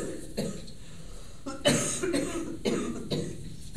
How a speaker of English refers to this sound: Do you want to give a good old cough and go?